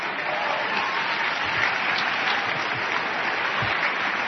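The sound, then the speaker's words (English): A dense, roaring round of applause fills the space, steady and loud throughout with many hands clapping at once, like a large crowd cheering. “He had a roaring applause, sound round of applause”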